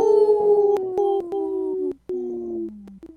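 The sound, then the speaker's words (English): A human voice imitates a wolf howl: two long, sustained tonal wails that slowly slide downward in pitch, with a brief break between them, loud. “Good one, …. Good howl.”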